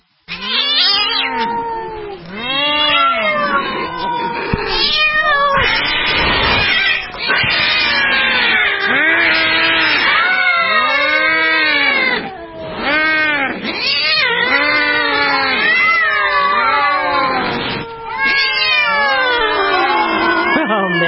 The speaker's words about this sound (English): That is frightening. It's like an episode from the old Catwoman days. Remember they used to have that sound of all those cats going after each other? When Halle Berry played Catwoman, it sounded like that.